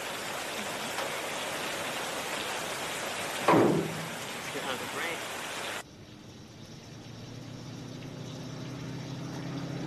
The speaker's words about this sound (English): Let's get out of the rain.